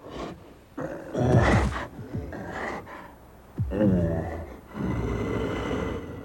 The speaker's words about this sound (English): Here's a kind of bear happy hour.